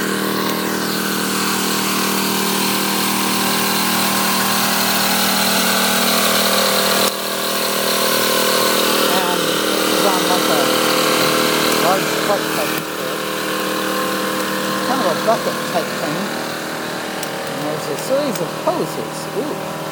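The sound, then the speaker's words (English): A pumping machine's engine on Westlawn Terrace, across the street from the recordist's home, runs with a steady, droning hum and layered tonal whine that holds level for the whole stretch, while faint voices and brief chirpy sounds come and go in the second half. “Does vibrate. So they are pumping or something.”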